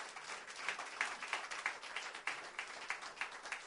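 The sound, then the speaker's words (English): A group of people clapping together for visitors from Portlish, a dense patter of overlapping claps with a few sharper hand slaps standing out, holding a steady moderate level throughout with no voices. “If we can just give a clap to them.”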